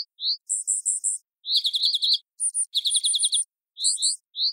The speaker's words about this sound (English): As expected, the unfamiliar sound had no effect on the fairy wrens. But then the researchers paired the synthetic call with a chorus of alarm calls the wrens would recognize.